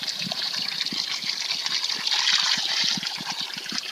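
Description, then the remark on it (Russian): Water gushes steadily from the spout of a holy spring on a hot day, a bright continuous splashing stream, with small irregular low thumps of water hitting below. No one speaks. “Жаркий день, самое время испить водички из святого источника.”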